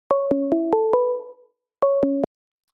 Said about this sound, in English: Hold on, got a phone call coming in.